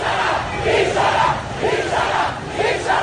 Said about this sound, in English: These protesters are yelling dishonor at security forces.